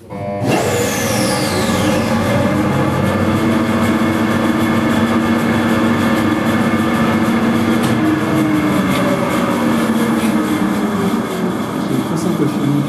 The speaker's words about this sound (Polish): podczas pracy tego silnika elektrycznego, gdybyście Państwo podeszli do którejkolwiek kratki, do któregokolwiek nawiewu, tam powinien być wyczuwalny ruch powietrza